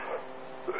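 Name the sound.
cough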